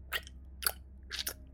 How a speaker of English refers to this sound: Disheartened, one of our mates took a swig from his glass and then proceeded to eat a piece of chicken noisily.